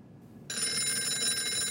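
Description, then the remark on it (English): Roland King's telephone bell starts ringing abruptly after a brief quiet moment, a bright, sustained metallic trill that continues steadily and fairly loud with no one talking; Kelleher is on the line. “Roland King's phone is ringing.”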